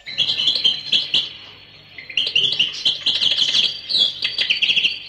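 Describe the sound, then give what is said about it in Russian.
A small bird, tossed into the air from a man's pocket, chirps rapidly and continuously as it flies off, bright high tweets in quick bursts with a short pause midway, fairly loud, with no voices. “И подбросил маленькую птичку, которая сидела у него в кармане.”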